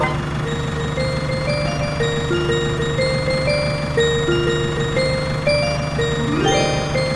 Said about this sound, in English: Ice cream truck.